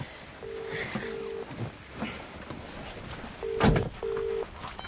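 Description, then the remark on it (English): A phone call to Rotende rings out through the earpiece: a double-pulse ring tone sounds twice, separated by a pause, over low background rustle and a brief clatter near the second ring. “Phone Rotende.”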